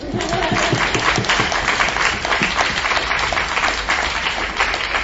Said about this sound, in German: Ein Applaus.